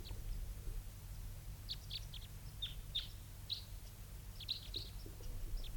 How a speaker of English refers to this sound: both birds calling there.